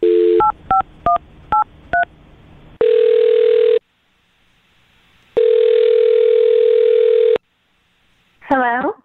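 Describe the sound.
A quick run of keypad dialing beeps as a radio show places a phone call, then two long, steady telephone ringing tones separated by a pause, before a voice briefly answers at the very end.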